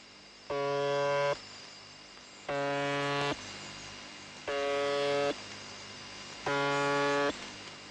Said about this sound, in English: There are a few strange stations, I must admit, like the buzzer on 4625 kHz.